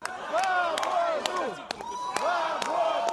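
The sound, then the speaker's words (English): A dense crowd of supporters of Mikhail Khodorkovsky shouts "freedom" and chants together outside a Moscow court as he is led in, in overlapping rising and falling cries, loud and continuous, punctuated by sharp clicks and bangs. “There were shouts of freedom as the fallen billionaire, who's already spent 7 years behind bars, was led into court.”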